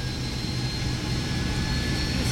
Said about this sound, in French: Ça y est, l'avion décolle!